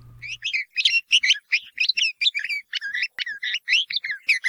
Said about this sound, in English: the red-vented bulbul. It's been sharing its song on our island here for the last 75 years